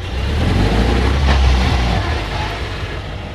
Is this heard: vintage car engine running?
yes